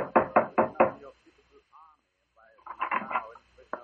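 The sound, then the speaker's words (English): Four loud, heavy knocks on the door of a house in quick, even succession, then a pause before another burst of knocking returns, mixed with other muffled noise. “Suddenly, there was a loud knock on the door.”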